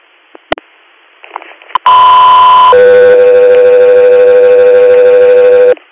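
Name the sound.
radio dispatch alert tones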